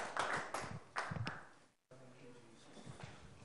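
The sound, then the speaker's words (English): An audience claps for the Lord after a prayer, in a couple of short, noisy bursts mixed with voices, then the applause cuts off and a single voice begins speaking. “Please be seated and give the Lord a big clap.”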